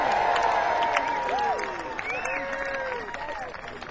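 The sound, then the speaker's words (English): A large crowd at Folks Fest cheers and whoops loudly for paper, overlapping voices rising and falling in pitch, with some scattered clapping, holding steady for a few seconds before easing off slightly at the end. “Can we just have a big cheer for paper?”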